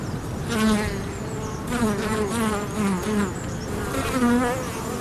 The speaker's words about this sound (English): I have a tree here with native Irish bees, and they're very important because apparently they're rare, and they're just this little alder tree. They're rare, and do you know, I said they're not aggressive, but they're coming a bit close to me now,